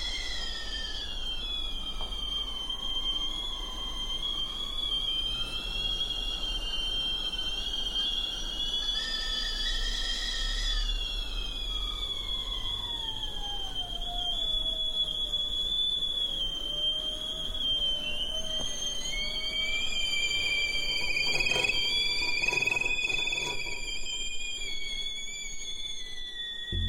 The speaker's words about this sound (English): now, they sort of created this composition with them by picking up teapots so they got quiet and then putting them back down so that they would whistle again. And they were not beautiful sounding teapots. They were those teapots with shrill whistles.